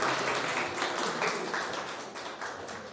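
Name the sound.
audience clapping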